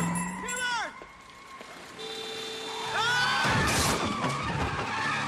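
Tires squeal in two sharp screeching skids, the second ending in a loud, noisy crash as one car slams into another, with engine noise rumbling underneath.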